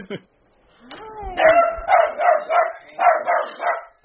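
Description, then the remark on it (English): Callie, a miniature dachshund belonging to Republican Congressman Ken Calvert of California, lets out a rising whine, then a rapid run of about six sharp, high-pitched barks in a steady rhythm, loud. “This is Callie, a miniature dachshund who belongs to Republican Congressman Ken Calvert of California.”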